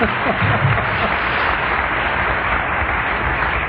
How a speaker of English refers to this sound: I have not been drunk since that first meeting. And, I didn't mean to applaud.